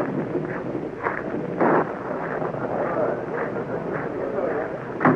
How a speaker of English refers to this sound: Yes. Well, here comes some rain. You'll excuse me. I'll get to my car.